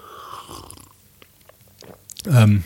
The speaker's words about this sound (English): Let's have a sip of this.